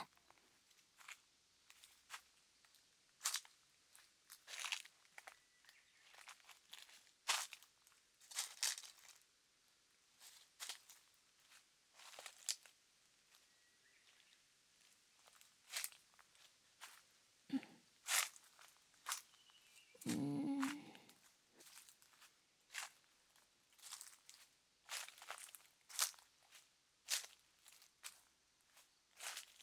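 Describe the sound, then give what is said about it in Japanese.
Footsteps crunching over soil and twigs in an irregular walking rhythm, with sharp snapping cracks of breaking sticks now and then, including a louder crack about two-thirds through. No one speaks. “うんうん、たまにパキって鳴る音がなんか落ち着くっていうか、普段歩いてるときに聞いてもそういう感じにはならないのに、いざ聞く側になると感じ方が変わるのが不思議だよね。”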